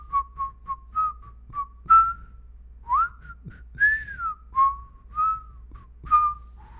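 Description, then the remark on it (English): A person whistles a relaxed, lilting song melody for another person to guess, a string of short notes and gliding phrases with small pauses between them, with no talking and only a faint low hum underneath. “You want to play a game real quick where we whistle tunes back and forth to each other and I try to guess what you're whistling?”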